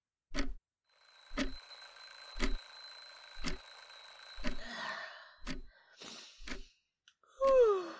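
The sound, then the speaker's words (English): An alarm clock rings with a sustained electronic tone and sharp beats about once per second, followed by breathy gasps and a groaning sigh as it stops. “Alright, let me set my alarm.”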